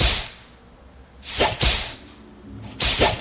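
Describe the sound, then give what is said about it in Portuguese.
Three sharp whip cracks ring out, each a loud whooshing lash, spaced about a second and a half apart with quiet gaps between them and no voices. “É três, meu filho, é três lapadas no lombo, hein? Olha o chicote da verdade agindo.”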